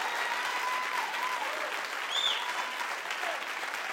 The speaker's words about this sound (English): Now give the Lord a hand clap of praise if you want to praise him.